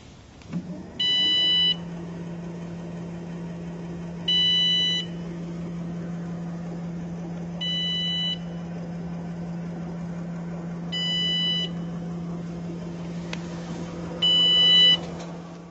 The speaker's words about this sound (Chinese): 这个声音呢是这个我的那个电动车啊，雅迪电动车的一个它的一个限速报警的一个声音，它超过这个15公里每小时啊，它就会发出这个警报声。